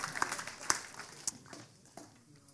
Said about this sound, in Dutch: Dank jullie wel, Bent, een applaus. We doen het zo goed, die gasten.